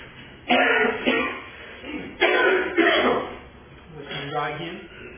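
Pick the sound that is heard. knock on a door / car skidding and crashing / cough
cough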